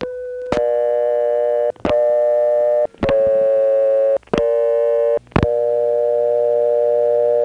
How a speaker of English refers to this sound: That was Farmville, two Wilson dial tones, Kenley and Clayton.